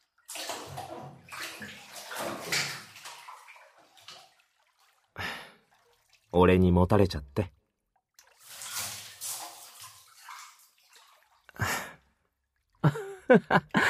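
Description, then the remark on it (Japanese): Bathwater sloshes and splashes in bursts as someone settles into a tub, with a soft sigh and a brief line of speech between the louder surges of water. “バスタブの中においで。”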